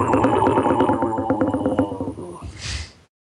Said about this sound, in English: Well, if you take a moo and warp the pitch down and extend the sound. Imagine it echoing over a hill. You know what? With a Tyrannosaurus bombastic sound.